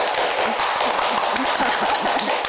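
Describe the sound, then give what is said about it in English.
Steady, busy hand clapping from several people, a dense patter of sharp claps that holds at an even loudness throughout, with faint voices mixed in underneath. “We do a lot of clapping.”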